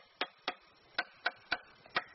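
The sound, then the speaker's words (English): Six crisp, hollow knocks from tapping bamboo stems in the jungle to find out which hold water, arriving in an uneven quick rhythm with one short pause. Each tap is a bright, woody click with no voices. “But if you listen, they sound quite hollow.”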